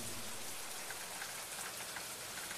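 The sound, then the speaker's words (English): Steady, dense rain patters on a church roof and around the church, a continuous hiss with scattered brighter droplet taps throughout, fairly quiet and even in level, with no voices. “Listen to the rain around this church and on the roof.”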